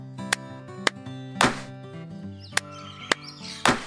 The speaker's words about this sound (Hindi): अब हम दो बार ताली बजाएंगे और फिर एक बार पैर जमीन पर पटकेंगे। तैयार? तैयार। मजा आया ना, चलो अब साथ में करते हैं, दो बार ताली बजाना एक बार पैर पटकना।